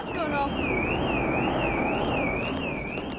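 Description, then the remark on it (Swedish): Car alarms on a street wail with a steady up-and-down siren tone, repeating evenly over the loud, dense roar of a Concorde's engines overhead, which set the alarms off. “Ljudet från motorerna är så höga att bilarnas larm på gatan nedanför går igång.”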